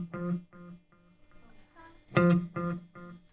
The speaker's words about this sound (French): Alors elle fait de l'écho, j'adore ça aussi ça. Et là, c'est comme s'il y avait un écho. La note va se répéter, alors j'enlève la réverb parce que des fois je mets les deux en même temps, mais voilà.